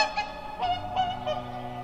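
Whooper swans at Tysslingen call in a loose chorus of bugling, trumpet-like honks, several overlapping over about two seconds, clear, with no talking.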